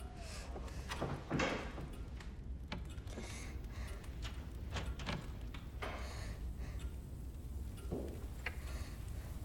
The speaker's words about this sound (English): She moves slowly to a pair of shutters in the far corner of the room. She opens one shutter and the glazed door behind it.